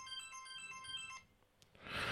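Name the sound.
telephone ringing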